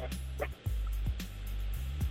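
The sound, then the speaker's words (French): Many dogs at a person's home bark repeatedly in short, overlapping bursts, over a steady low hum, with a faint voice briefly underneath. “Et aussi, y a beaucoup de chiens aussi chez toi là.”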